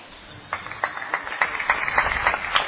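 A slow, steady golf clap: about eight or nine soft, even handclaps at a regular pace, with no voices.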